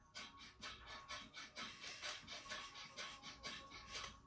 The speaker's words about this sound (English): Just do these breathing techniques first and then have your cup of coffee, because breath of fire is like giving us a natural speed. So it's rapid breathing in and out through the nostrils like this.